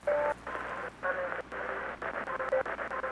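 radio interference

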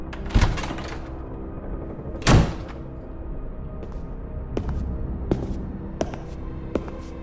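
door opening

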